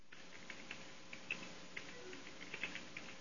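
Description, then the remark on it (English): Rapid, uneven clicking of keys on a computer keyboard, a series of light taps with a few sharper strokes, over a faint steady background hiss. “Yeah, we were listening to you type.”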